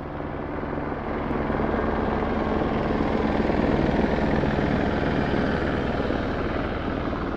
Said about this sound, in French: Il y a de l'effervescence dans l'air, mais pas que. Dans l'air, il y a aussi des hélicoptères de la gendarmerie qui viennent de temps en temps survoler le site.